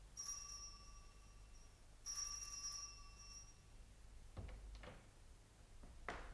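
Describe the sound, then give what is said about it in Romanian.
A telephone rings in two clear ringing bursts in a luxurious house, then falls silent; a few sharp clicks and knocks follow, like the receiver being handled. “Poliția a sunat?”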